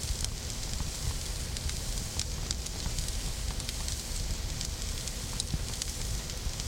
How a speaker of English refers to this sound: What are you listening for? Crackle the fire? That's not too loud.